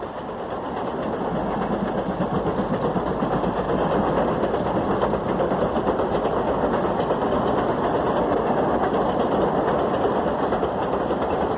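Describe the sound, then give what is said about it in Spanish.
A steam engine runs steadily, a dense mechanical rumble with a fast, even chugging pulse and a hiss above it, holding constant loudness throughout with no voices. “El tercero fue la máquina de vapor.”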